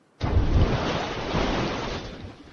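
A recording made in a swimming pool with an underwater mic and an overhead mic, pitched down an octave like slowing down a record: a deep, dull rushing roar like slowed-down surf, starting abruptly and holding steady for a couple of seconds before easing slightly. No voices.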